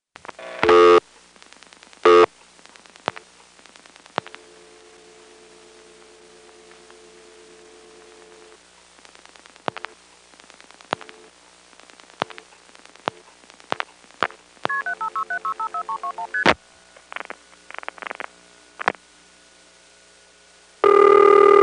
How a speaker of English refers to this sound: I'm now going to dial extra digits on a 756 call.